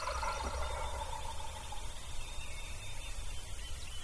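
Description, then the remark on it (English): Several wild turkeys, thought to be four, gobble down along the 100 Acre Wood Creek, their rattling calls overlapping in bursts over steady outdoor background noise, with no one speaking. “I think that's the four that I heard yesterday. There's more than one.”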